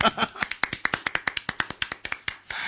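A single man claps for himself, about twenty sharp hand claps in quick even rhythm, with a brief murmur of voice at the start and end.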